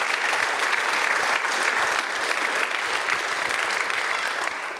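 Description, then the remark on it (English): An audience claps steadily for about five seconds, a dense, even wash of many hands at a loud, constant level with no voices breaking through. “Yeah, you can clap.”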